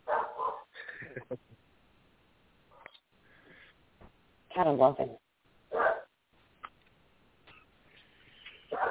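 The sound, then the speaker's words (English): Dogs bark in a few separate loud bursts, spaced irregularly with quiet gaps between them, while people talk at times in the background. “There go my dogs.”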